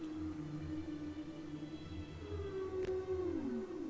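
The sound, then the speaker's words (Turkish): Low, drawn-out tonal calls glide and waver, then sweep downward near the end, with a faint rumble underneath and no talking. The sound resembles a whale's moaning song. “En büyük deniz canlısı olan balinaların bu sesi çıkartabilen tek canlı oldukları sanılmaktaydı.”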